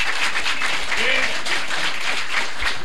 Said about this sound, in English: And with that, please give a round of applause for our wonderful panelists.